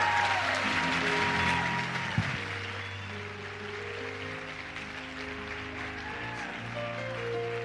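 An audience claps steadily for several seconds, a dense, continuous patter of many hands, with a low sustained hum and tonal drone running underneath.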